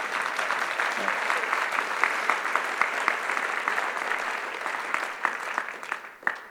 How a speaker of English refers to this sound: And then came that wonderful, relaxing day when he faced a 90-minute, vigorous, oral interview that we call the ordination interview that he passed with flying colors. That'd be a good time for applause.